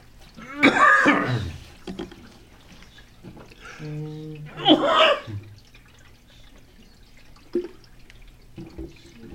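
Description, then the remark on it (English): Two harsh coughing fits a few seconds apart, the second preceded by a strained throaty sound, from a person after a piece of bread went down wrong and tickled the throat, followed by quiet with a few faint clicks. “Piece of the bread went down and tickled me.”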